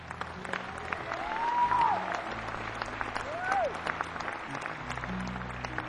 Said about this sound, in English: The applause is very nice, but it's not as nice as doing something.